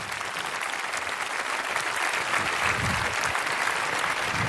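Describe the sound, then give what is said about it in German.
Sustained audience applause for the talk "Inside the Fake Science Factories", a dense, steady patter of many hands clapping at even loudness throughout, with no voices rising above it. “Ein großer Applaus für Inside the Fake Science Factories.”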